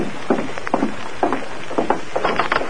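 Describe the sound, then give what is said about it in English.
Tonto's horse, ridden hard and approaching, gallops in a steady, uneven triple rhythm, with clusters of muffled hoof thuds repeating over a constant hiss. No one speaks. “I thought I heard a horse.”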